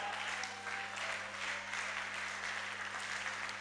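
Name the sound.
audience clapping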